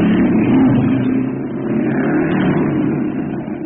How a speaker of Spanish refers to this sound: Aquella tarde, Calimán y Brenda Ferrier se alejan de la ciudad a bordo de un moderno auto deportivo.